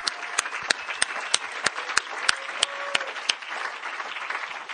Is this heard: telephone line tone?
no